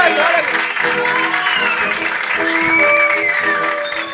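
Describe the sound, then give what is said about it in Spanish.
A crowd applauds loudly and steadily for about four seconds for a quiz contestant who answered correctly and won a trip to Bariloche, a dense clapping wash with whistles or shouted voices ringing through it. “Correcto, fuerte el aplauso.”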